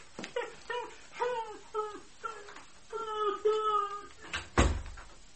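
A dog named Nana gives a rapid run of short, high whining yelps, fairly loud, each note sliding downward, ending with a single dull thump.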